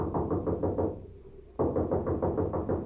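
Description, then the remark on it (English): Loud, rapid pounding on a door, a steady run of heavy knocks that breaks off for a brief pause, then resumes just as hard and fast. “Here's a knock that ought to bring out the militia.”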